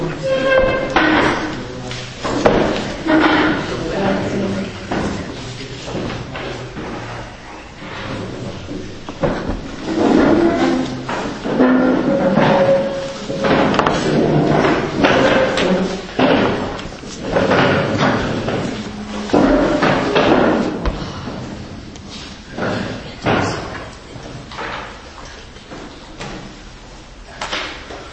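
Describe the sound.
Chairs being shifted and set down, a steady run of irregular knocks, scrapes and thuds, with faint voices murmuring underneath.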